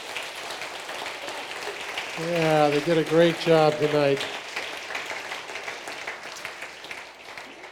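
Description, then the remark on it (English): A crowd claps steadily for the students and the staff for the whole stretch, a dense wash of applause with no clear individual claps, while a man speaks briefly over it partway through. “Let's give one more round of applause to the students and the staff.”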